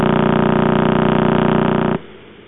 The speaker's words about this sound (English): And this is a recording of that pulsar rotating about 30 times a second. So this one sounds a bit like a road drill. You know, that's sort of same. Sort of sound of a road drill.